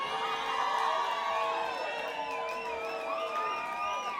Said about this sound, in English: I'm just scared y'all to stop applauding.